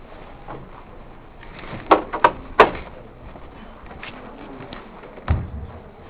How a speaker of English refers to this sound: Maybe I'll close this door, though.